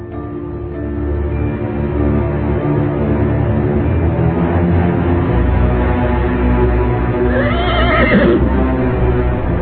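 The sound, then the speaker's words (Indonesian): A horse whinnies twice over a constant low rumble of background noise, a fainter neigh near the middle and a louder, quavering one close to the end, as a man hurries behind a lodge to fetch it after evening prayer. “Buru-buru dia pergi ke belakang pondok untuk mengambil kuda.”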